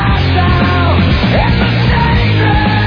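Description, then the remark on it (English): A rock singer lets out a loud, sustained scream that bends in pitch, riding over a dense, driving band mix of guitars and drums at full volume. “One of the all-time great rock screams from this guy.”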